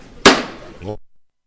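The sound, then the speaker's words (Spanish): A single sharp, loud hammer knock (martillo) rings out on the float (paso) of the Virgen de la Soledad on calle Juan Pedro Vidal in Lebrija, its bright metallic strike decaying quickly before a voice briefly begins. “martillo, otros tres pasos más, bajo los zancos de este paso que cierra el broche de oro de nuestra semana.”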